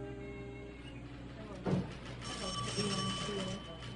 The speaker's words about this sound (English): The phone rang at Kansas City Police Headquarters, and Wilcox answered it.